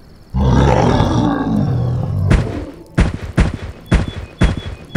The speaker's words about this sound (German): Dann, ganz langsam, erhob er sich, stieß ein tiefes Gebrüll aus und stampfte wie ein Gorilla auf den Fäusten laufend auf Diego zu.